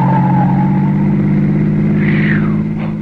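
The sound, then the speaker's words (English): A car roars loudly as it speeds past, nearly running a person down, its engine droning steadily before a rising, then falling whine sweeps through, fading slightly at the end. “Why, it looked as if that car was deliberately trying to run you down.”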